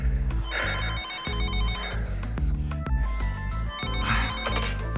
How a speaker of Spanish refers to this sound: Oye, no va a contestar el teléfono.